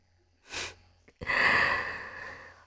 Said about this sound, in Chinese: 喘息的这么厉害，那就先暂停吧。